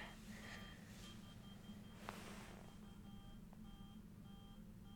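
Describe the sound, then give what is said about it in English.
A toy that was set off somewhere on a bed in the room gives off faint, repeated electronic beeps in a steady pulsing pattern over a low background hum, with no one talking. “There's a beeping going on somewhere in this room, and oh, you know what it is?”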